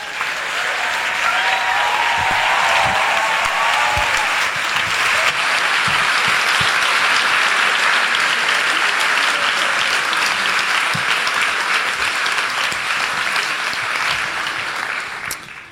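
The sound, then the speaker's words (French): Sustained, dense applause from a large audience welcoming Alexandre Astier on stage for his show, loud and steady for about fifteen seconds before tapering slightly at the end, with no one speaking over it. “Merci d'applaudir Alexandre Astier.”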